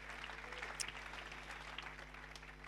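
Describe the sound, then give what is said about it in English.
An audience claps for Jesus in a steady, dense patter of many hands for a few seconds. The applause is fairly soft and even, with no voices over it. “Yeah, can we clap for Jesus?”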